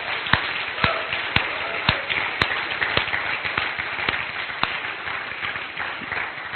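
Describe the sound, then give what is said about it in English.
An audience applauds the helpers on a Sunday morning, many hands clapping in a dense, steady patter with sharper individual claps standing out, holding at a fairly even level throughout with no talking. “Let's give a big round of applause for all our helpers this morning.”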